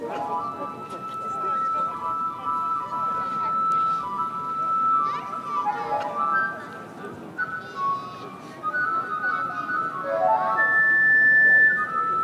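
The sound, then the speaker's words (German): A simple melody played on a flute, held notes stepping up and down in pitch over a continuous bed of murmuring voices and children's chatter in the background. “Die Leute werden einig und der Pfeifer greift zur Flöte.”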